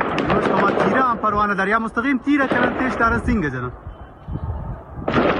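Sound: continuous gunfire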